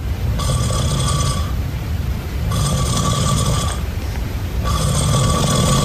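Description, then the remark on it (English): A sleeping man gives three loud, buzzy snores in quick, evenly spaced bursts, each about a second long with a harsh, drill-like rattle, over a constant low background rumble. No one speaks. “Does it sound like his snores are pretty rapid?”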